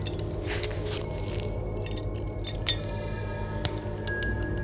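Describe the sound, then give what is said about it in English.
A small bell on a diner door chimes with a bright, tinkling metallic ring that lingers near the end as someone leaves the diner, preceded by a few light clinks over a low, steady background rumble. “The chiming bell of the door signaled my exit as I left the diner and attempted to get a bearing of where I was.”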